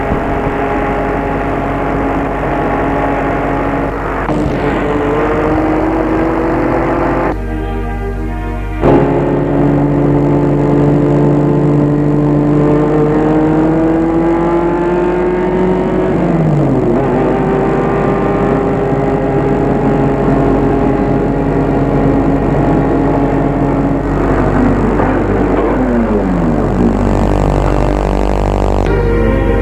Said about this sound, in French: Arrête la voiture en pleine campagne.